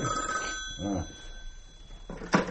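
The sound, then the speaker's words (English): A telephone bell rings steadily at Groom Farm, a continuous bright trilling that carries through most of the moment before cutting off, followed by a short rustling clatter. “It's Diana's mother on the phone.”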